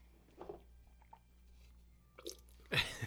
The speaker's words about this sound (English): Not spit out. It's just, it's extremely sugary. It didn't matter. I mean, it's still sweet even though I spit it out, folks.